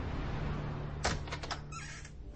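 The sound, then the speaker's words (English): An office door at FBI Headquarters in Washington, D.C. opens: a sharp latch click, then a few quick rattling, scraping bursts as it swings, over a low steady hum, with no one talking. “That's pretty much what you said the first time you walked through this door.”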